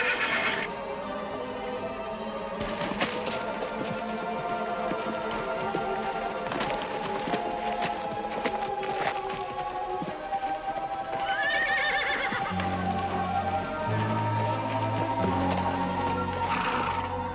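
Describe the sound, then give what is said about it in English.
A mule whinnies loudly and repeatedly, its cries rising and falling, while its hooves clop steadily on a hard surface as it is led inside. No one speaks. “With the snake in one hand, she leads her mule inside.”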